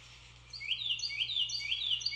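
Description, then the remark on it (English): A Carolina wren sings a quick series of repeated, ringing whistled phrases, rather faint, over a low steady hum. “Carolina wren.”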